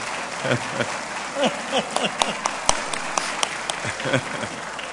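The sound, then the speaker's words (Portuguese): An audience at a tribute event claps steadily for the speaker's wife, with the women urged to applaud; a dense patter of many hands with sharp individual slaps standing out, mixed with faint cheering voices in the background throughout. “Vocês mulheres batam palmas, viu?”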